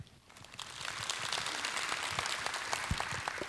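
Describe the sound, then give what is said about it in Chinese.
A steady wash of audience applause welcoming a lecturer to a class, many hands clapping at once in a dense, continuous crackle that holds an even level throughout with no voices. “我们掌声欢迎。”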